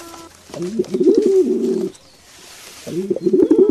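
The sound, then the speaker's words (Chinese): A pigeon coos in two close, clear bursts of soft, throaty warbling rolls, separated by a brief quiet pause, with no talking. “哎，快看，这门上贴着一只鸽子呢。”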